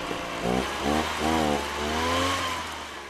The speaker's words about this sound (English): It's basically what it sounds like, a backpack-like device that blows out pesticides that kill mosquito larvae. Here's what that sounds like.